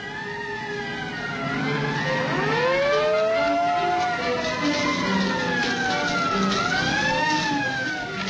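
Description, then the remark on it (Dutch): A fire brigade siren wails continuously as the brigade heads out to a forest and heath fire in the Netherlands. Its pitch sweeps up and down in long overlapping arcs, loud and steady over a low rumble of traffic or engines throughout. “Enkele minuten later is de brandweer onderweg.”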